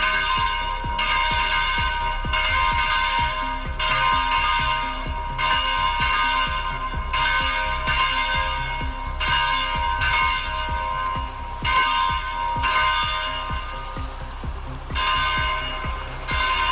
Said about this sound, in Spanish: A los pocos minutos de conocerse la noticia de su muerte, las campanas de las parroquias de la diócesis oxomense invitaban a los fieles a la oración con su tañido fúnebre.